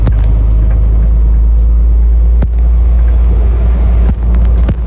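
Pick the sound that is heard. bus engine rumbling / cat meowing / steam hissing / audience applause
bus engine rumbling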